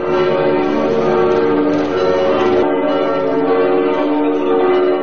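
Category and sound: signal or alarm, church bells ringing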